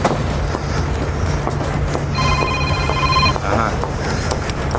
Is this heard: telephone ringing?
yes